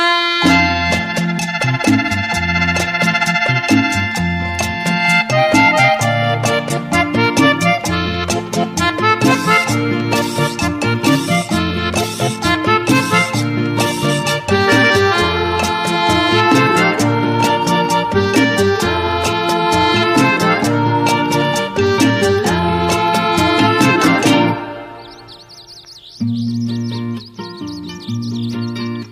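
A lively vallenato song plays loud, with bright sustained accordion chords over a steady driving percussion beat; near the end the music thins out and a high chirping tone rises.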